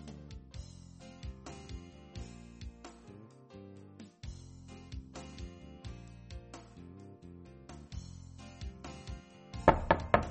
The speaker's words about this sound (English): I hear someone knocking on a door.